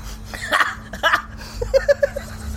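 A short burp from a woman tasting wine, then a second throaty gulp, followed by a run of quick, light giggles.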